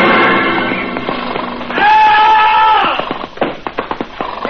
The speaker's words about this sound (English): Then in desperation, he plunges his spurs deep into the sides of his horse. The horse rears.